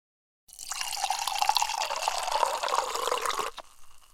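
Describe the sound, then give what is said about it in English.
A drink pours steadily into a glass for about three seconds, a close, bubbling gush whose pitch climbs slightly as the glass fills, then stops abruptly. No one speaks. “That's a real gusher.”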